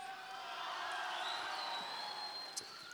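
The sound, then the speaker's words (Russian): An audience shouts and cheers continuously in a dense, roaring wash of voices, with scattered whoops rising above the steady din and a brief sharp sound near the end. “Очень я с удовольствием спою ее, потому что, вы знаете, хорош кричать, ребят.”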